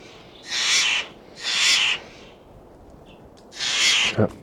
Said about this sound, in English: According, I caught one of the males and the rest of the flock took off. Just a couple of Steller's jays here, scared them off.